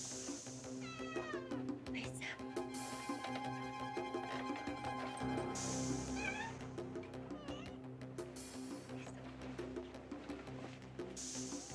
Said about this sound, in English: Hey, shut that cat up or we're all gonna get fried.